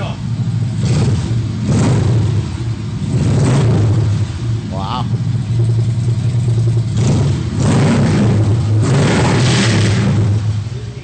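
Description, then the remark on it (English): A motorcycle engine revs loudly in several surging bursts over a deep, steady exhaust rumble, with someone briefly exclaiming partway through. “And although that sound will make the bike safer by allowing him to be heard by other motorists, it won't help his ass.”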